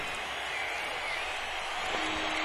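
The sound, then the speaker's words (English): A dense, steady roar of a live rock concert crowd at Roosevelt Stadium in Jersey City, New Jersey, cheering and clapping blended into a continuous wash of sound that holds level throughout, with a faint sustained tone emerging near the end. “and the crowd again is going wild.”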